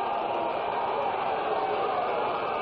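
A basketball crowd at a Ricks College game cheers in a steady, continuous roar, a dense wash of many voices holding at a fairly even level for a few seconds, with no single voice standing out.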